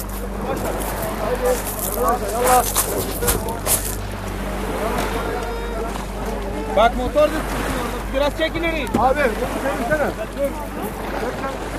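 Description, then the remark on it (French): Waves wash steadily on a beach at 1 a.m. under gusty wind, with a low boat-engine hum droning beneath and several people talking as they walk along the beach one behind another. “Et nous marchons sur une plage. On est les derniers.”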